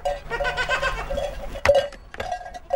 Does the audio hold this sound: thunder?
no